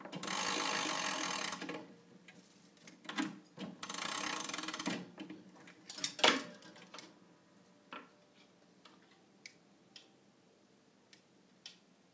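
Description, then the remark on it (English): A clock weight is pulled up while winding the clock, with only one weight to pull up: two long bursts of dense, rasping ratchet clicks, then scattered sharp mechanical clicks and ticks at an irregular pace, with no one speaking. “I've only got one white to pull up.”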